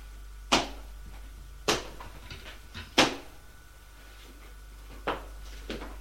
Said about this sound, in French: La serrure. La porte qui s'ouvre.